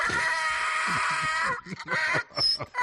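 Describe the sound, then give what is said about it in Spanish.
A donkey brays loudly during a video call, a harsh, raspy sustained blare that breaks into a series of choppy, gasping hee-haw bursts before trailing off. “A estas complicaciones habituales, tú súmale que entre en acción un burro.”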